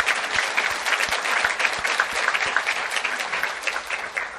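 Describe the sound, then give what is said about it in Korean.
A large church audience claps steadily together in thanks to those who served the worship over the year, a dense continuous wash of applause for several seconds with no voices over it. “그분들을 위해서도 우리 감사의 박수를 쳐드리겠습니다.”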